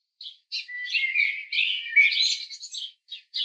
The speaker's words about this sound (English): Birds sang merrily in the high-reaching boughs of the lichen-spotted trees, and the springtime flowers were nearly in full bloom.